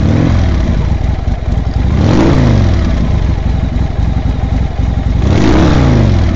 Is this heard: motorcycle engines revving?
yes